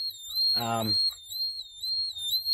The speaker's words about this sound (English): All right, and it was showing in the 17s here. I'm going to try to turn the alarm off, go to the peak screen. Okay, that one, 17.6.